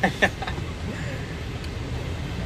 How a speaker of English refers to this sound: Hey, there's a truck.